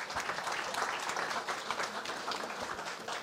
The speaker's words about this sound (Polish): Proszę Państwa, została jeszcze jedna statuetka. To jest statuetka, która miała trafić w ręce pana sołtysa Stanisława Radzikowskiego i zostanie przekazana małżonce, ale myślę, że brawa się należą.